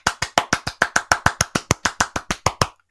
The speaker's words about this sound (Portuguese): Pois así é, un mini aplauso.